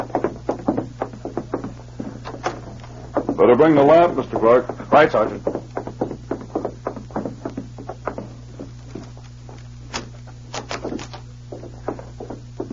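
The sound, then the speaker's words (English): A cabin door is unlocked and opened for a customs inspection: a run of sharp clicks, rattles and knocks, fairly loud and irregular, with a brief exchange of men's voices partway through. “I'll unlock the door for you.”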